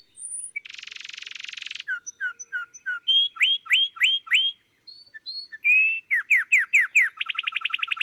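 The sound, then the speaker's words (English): An adult banded wren sings a varied phrase, clear and alone: a harsh buzz, a run of quick chips, several ringing upslurred whistles, then a rapid dry trill to finish. Recorded by Roseli Juarez. “We have another recording that perhaps we can listen to the adult example as well, just as a comparison.”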